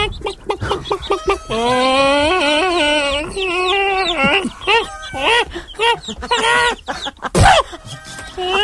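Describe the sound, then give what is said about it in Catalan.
A hen clucks and cackles in a run of drawn-out, wavering calls, followed by shorter choppy clucks and a brief rustle near the end. “I no només això dels paons, perquè també ho anuncien les gallines. Mira, la gallina que...”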